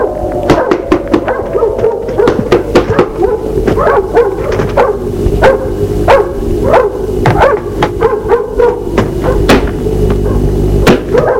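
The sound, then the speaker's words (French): A dog barks and yips loudly at a farm while sharp, repeated knocks on the farmhouse door ring out in an uneven rhythm, with no one speaking. “Le chien aboie. Le frapper à la porte de la maison.”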